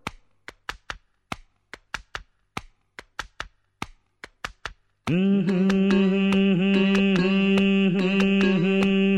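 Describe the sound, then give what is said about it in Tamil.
A quick rhythmic pattern of sharp hand taps on a person's head, keeping time, distinct, repeats for several seconds before loud sustained instrumental music swells in, its chords pulsing along with the beat. “டே ரொம்ப தட்டாதடா, தாளம் தட்டுறதுக்கு என் தலையாக கிடச்சது.”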